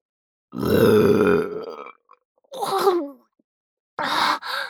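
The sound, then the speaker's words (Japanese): A long, throaty burp after swallowing semen, followed by two shorter belching bursts after brief pauses, each loud and gravelly, with no talking. “ザーメンゲップが。”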